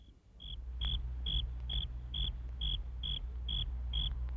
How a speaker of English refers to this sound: The crickets sing a love song every summer night. They're always prancing and romancing, and they never start a fight. The male crickets rub their wings together in a chirping melody, and female crickets hear with their ears on their front legs,